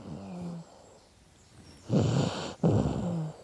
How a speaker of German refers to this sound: Ja, und jetzt liegt er hier vor mir, deswegen, wenn es manchmal ein bisschen schnarcht im Hintergrund. Das hört niemand. Dann ist es, na, ich halte mal das Mikro ran, warte mal.